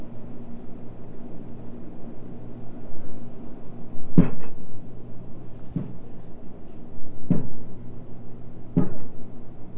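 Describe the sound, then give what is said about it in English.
A child who has pulled up on a table and stood up bumps their head with a dull thud, followed by several more knocks at roughly even intervals, heard over a steady low hum with no talking. “Did you bump your head?”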